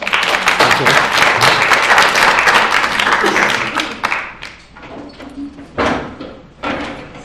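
An audience applauds the speaker at the end of a lecture with dense, steady clapping for about four seconds, then it thins into scattered claps and a few murmured voices as the applause fades.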